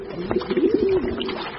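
Pigeons cooing as they bathe, a steady low throaty warble with soft rolling pulses, heard on its own without any talking.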